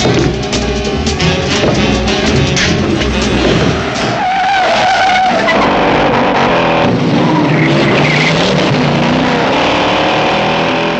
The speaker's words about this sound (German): Im Rückspiegel seines Ford Mustang nimmt er ein Auto wahr, das ihm schon seit geraumer Zeit hinterherfährt. Eine der längsten Verfolgungsjagden der Kinogeschichte nimmt ihren Lauf.